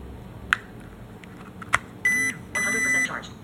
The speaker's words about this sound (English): A short beep and a long beep that actually indicates that the iPad is charged. And it'll actually do that up to 3 times. Just to make sure that you know that the charging cable is in and it didn't come loose.